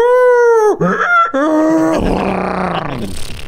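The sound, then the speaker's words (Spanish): A human voice imitates an animal cry: a loud, strained wail that drops in pitch, two short honking yelps, then a long, raspy, braying groan that mixes a bark, a donkey's bray and a neigh. “Descritos como una mezcla entre un ladrido apagado de un perro con los chillidos de un burro y los relinchos de un caballo, güey.”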